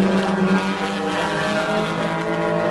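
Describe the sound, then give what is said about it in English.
A race car engine drones loudly, its deep harmonic tone holding fairly steady with a slight dip in pitch partway through as the driver downshifts into first gear. No one speaks. “And again, you can listen to it. I get down into first gear, by the way, here.”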